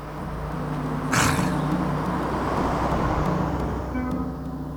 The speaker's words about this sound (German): Ja, der Wagen kommt näher.